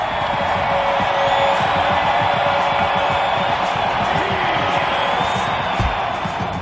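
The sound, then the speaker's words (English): A huge crowd of fans screams and cheers as players come out of the stadium tunnel, a dense, unbroken roar that stays loud and steady for the whole stretch, with scattered higher shrieks rising out of the din. “Just hearing the fans scream.”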